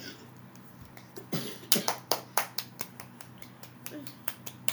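A short run of sharp, crisp claps, about a dozen in quick, fairly steady succession, close and moderately loud, with no voices, like a small applause effect.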